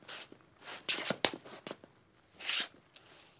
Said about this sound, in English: He basically deconstructed an iconic scene from Mon Oncle for me and said, okay, the first thing he would have had to do was he would have done the footsteps.